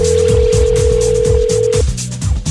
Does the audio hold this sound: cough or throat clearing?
no